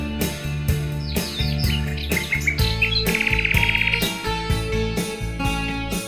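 Nightingale-like birdsong of quick chirps and a rapid trill rings out over a steady, beat-driven musical backing, fairly prominent but sharing the mix with the instruments.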